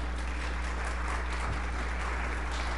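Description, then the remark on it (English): An audience applauds in a steady, sustained patter of many hands clapping together, moderately loud with a low electrical hum underneath and no talking. “There's your applause there.”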